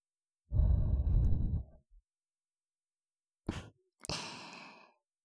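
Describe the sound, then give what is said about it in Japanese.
A long, breathy exhale blown right into the ear, followed after a pause by two shorter puffs of air, soft and airy with no talking. “耳に息がかかるくらい近くに。”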